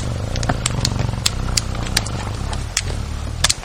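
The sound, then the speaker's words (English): A bear tries to drag away a field recording station in Denali: irregular scraping clatters and sharp crackling knocks over a steady low rumble, with a few louder bumps near the end and no voices. “The recorder even caught the sound of that bear trying to drag it away.”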